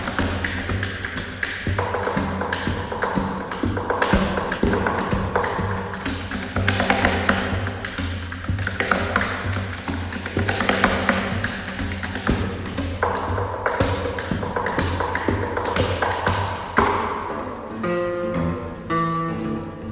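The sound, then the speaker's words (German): Plucked guitar strings ring out alongside sharp percussive knocks on the guitar's body, played continuously and fairly loud, with tones becoming more sustained and sparse near the end; a performance of the piece 'Gaucho' by Brazilian composer Chivinha Gonzaga, played at the Jugend musiziert competition. “Da habt ihr nicht nur die Saiten gezupft, sondern auch auf der Gitarre geklopft.”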